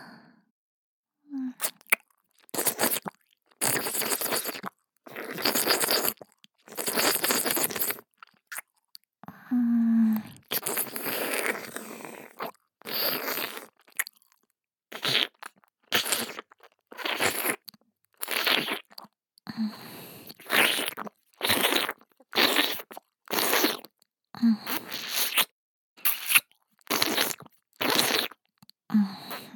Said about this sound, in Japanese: こっちのお耳もなめなめされて気持ちいいでしょ。